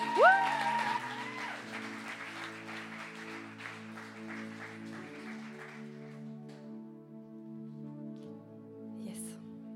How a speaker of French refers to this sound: On peut l'applaudir.